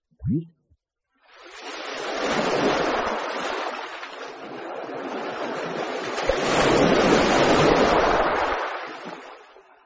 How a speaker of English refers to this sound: Waves.